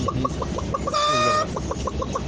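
A laying hen clucks in a steady run of short, bright clucks, broken midway by a longer, drawn-out cackle with a strained, harmonic tone before the clucking resumes.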